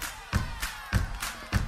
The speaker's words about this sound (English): Guys, stomp your feet like that, and let's clap together.